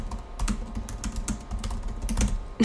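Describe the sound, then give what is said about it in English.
Rapid keyboard typing of a note, a run of crisp irregular clicks and taps with a brief pause, ending in a sharper, louder keystroke. No voices are heard. “I'm going to write that down.”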